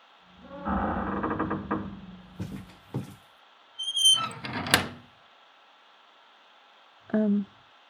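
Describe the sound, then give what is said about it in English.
A door creaks open with a long, squeaky groan as someone comes in, followed by a few clunks and thumps, then another short squeak near the end; no one speaks. “It's me. Can I come in?”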